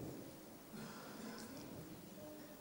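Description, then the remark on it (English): Strong gale-force wind rushing steadily, a continuous broad roar that swells into a stronger gust partway through, heard on its own with no voices. “You're absolutely right. It's the wind or gales.”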